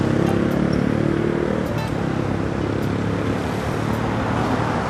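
Steady, dense roar of road traffic on a six-lane road along the northern shore of the Brisbane River, a continuous wash of engine and tyre noise from many vehicles passing, with no pauses or voices.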